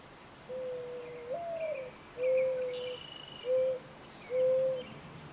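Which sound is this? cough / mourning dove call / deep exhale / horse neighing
mourning dove call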